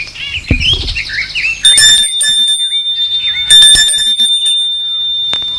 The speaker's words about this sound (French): Lorsqu'elle sonne au portail de la propriété, elle dit au domestique qu'elle est Madame Ponce, Henriette Ponce, et qu'elle aimerait être reçue